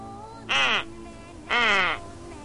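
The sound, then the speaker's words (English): Two loud, raspy duck quacks, each about half a second long and spaced a second apart, over a faint steady background hum; the duck quack offered as option 7 of an automated company phone menu. “If you would like to hear a duck quack, press 7.”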